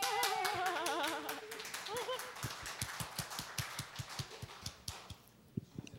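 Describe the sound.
A crowd breaks into brisk applause, dense overlapping claps that settle into a steadier rhythm and fade out, with voices cheering and whooping over the first part.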